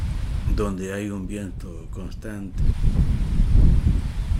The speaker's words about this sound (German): Tambores wird auch der Ort des Windes genannt, denn er liegt auf einem Hügel und es weht ein permanenter Wind.